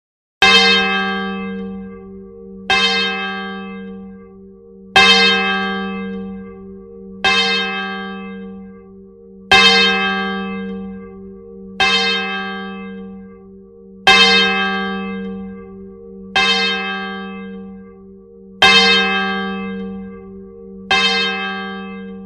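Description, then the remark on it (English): A swinging English-tuned church bell tolls about ten times in a steady, unhurried rhythm as a call to worship. Each loud stroke rings out and hums into the next, with no voices. “The swinging English-tuned bell makes an excellent call to worship.”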